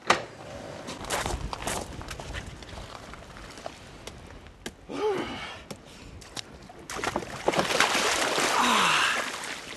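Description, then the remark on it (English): A natural mud pot in Iceland bubbles and plops in irregular bursts, with thick gurgling pops and a few louder, deeper gloops rising out of a steady low churning; no one speaks. “And this sound isn't a jacuzzi, it's a natural mud pot.”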